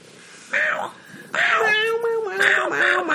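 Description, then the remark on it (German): A male cat meows, three drawn-out, wavering meows in quick succession, each rising and falling in pitch, fairly loud. “Wir sind heute sehr ablenkbar. Von kleinem Katertier.”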